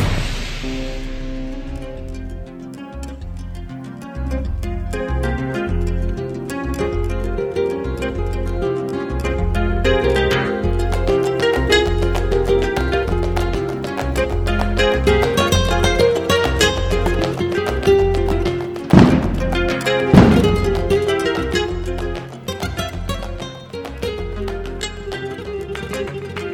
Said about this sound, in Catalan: Passen 5 minuts de la una del migdia, moment en què comencem aquesta hora del vermut amb el repic de campanes i l'explosió de coets que anuncia l'inici de l'encamisada, aquesta segona festa d'hivern a la capital del Priorat